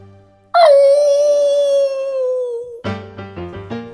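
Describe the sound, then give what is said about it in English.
A wolf in the woods at night lets out one long, loud howl that holds steady and slowly sinks in pitch before breaking off, followed by a few short, bright musical notes. “Surely that wolf came to protect me.”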